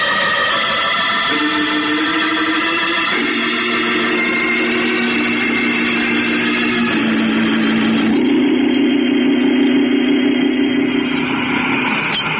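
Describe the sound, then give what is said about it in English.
A jet boat's rocket engine drones loudly and continuously throughout, its pitch stepping up and down a few times as it roars steadily with no voices. “You and I are blasting over there in our own jet boat to take a look.”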